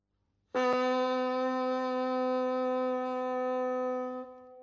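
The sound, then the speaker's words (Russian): A single sustained reedy honk from a bassoon reed just attached to its bocal by a musician assembling a bassoon, bright and buzzy like a train whistle, starting abruptly and holding steady for about four seconds before cutting off. No talking. “И только когда к трубке змейки присоединяется трость, только тогда мы и слышим звук. Он немного напоминает паровозный гудок.”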